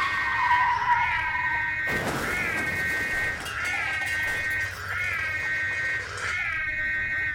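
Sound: car tires skidding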